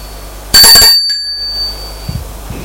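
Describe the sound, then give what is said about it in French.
A doorbell at the door of a man's parents' home gives a single bright, metallic ring that starts sharply and fades out over about a second, followed by a few faint soft thumps. “Sonne à la porte de ses parents.”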